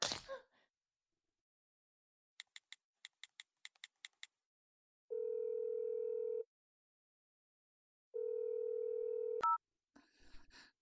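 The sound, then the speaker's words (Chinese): A quick run of about ten phone keypad beeps as a woman dials her husband, then two long, steady ringing tones separated by a pause, ending with a click as the line connects and faint noise follows. “我这就打电话给我老公，一边被你操，一边告诉他，肯定很刺激。”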